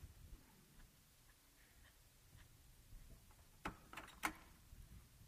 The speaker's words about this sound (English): Going to close this door real quick.